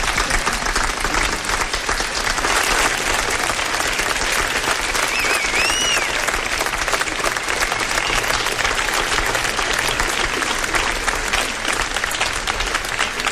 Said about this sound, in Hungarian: egy nagy tapsot neki.